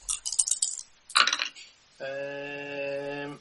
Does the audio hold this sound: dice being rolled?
yes